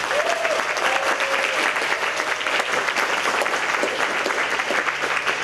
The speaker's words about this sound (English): oh, I'm just so excited for this talk, so I'd like you to give her an enormous EMF round of applause.